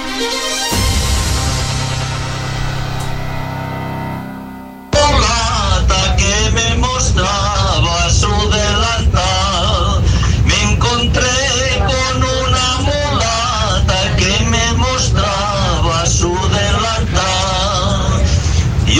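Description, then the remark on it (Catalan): A short musical passage gives way to a packed bus interior, where a crowd of passengers loudly sings and chants together over a steady low rumble of the moving vehicle, a bus travelling from Baix Empordà to a large demonstration in Barcelona on 11 September. “Aquest és l'ambient que s'escoltava en un dels autobusos que baixaven des del Baix Empordà cap a la gran manifestació de Barcelona ahir 11 de setembre.”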